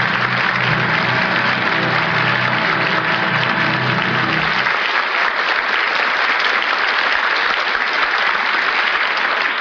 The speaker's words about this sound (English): I'm sure our radio listeners join the audience in the theater tonight applauding the performance of Irene Dunne and the rest of tonight's cast on the Cavalcade of America.